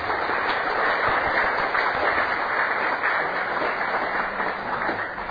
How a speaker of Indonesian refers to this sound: Waktu saya persilakan, kita beri tepuk tangan sekali lagi buat Pak.